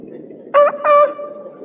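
A chicken gives two short, loud, bright squawking calls in quick succession over a low steady background rumble.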